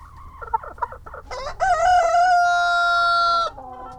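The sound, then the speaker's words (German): Chickens in an outdoor enclosure on a meadow of knee-high grass and wildflowers, beside two construction trailers converted into henhouses, on a sunny day: a few short clucks, then a loud, drawn-out rooster crow that holds steady before cutting off, with faint background noise and no talking. “Wir laufen durch kniehohes Gras, an wunderschönen Wildblumen vorbei bis zum Hühnergehege.”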